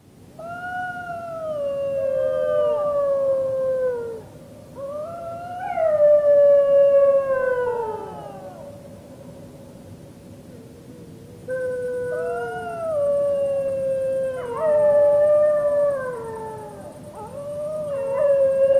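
Several 3.5-month-old puppies howl together in an overlapping chorus of rising and falling wails, broken by bursts of excited, high-pitched yips. The howling is fairly loud, swelling in two waves.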